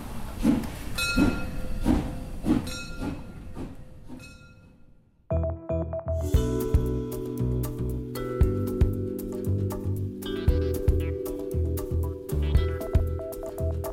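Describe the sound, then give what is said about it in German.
The steam train Molly chuffs in a steady rhythm of breathy bursts at a railway station. The chugging fades, then a loud, sustained, layered tonal sound takes over until the end. “Am Bahnhof wartet Molly. Gleich geht es wieder zurück in die Gegenwart.”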